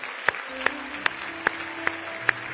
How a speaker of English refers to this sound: Are you ready? Give the Lord a big hand clap of praise tonight.